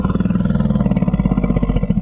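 A deep, loud call of a dominant stranger female elephant, a low throbbing rumble with rich harmonics that pulses steadily for about two seconds, heard alone, with no talking.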